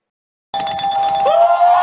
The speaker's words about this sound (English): The truck's backing up because they're hearing us.